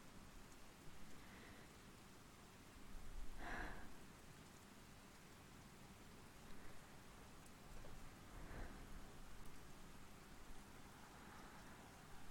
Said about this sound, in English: Yeah, the rain is nice. I usually hate storms, but this is surprisingly comforting.